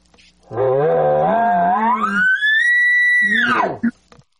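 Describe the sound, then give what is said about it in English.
A loud imitated elk advertising (display) bugle, shortened and more aggressive: a low, raspy growl climbs into a long, sustained high whistle, then drops abruptly back to a rough low grunt with a short, forceful final burst. “Now you're doing the advertising bugle, or display bugle, as you like to call it.”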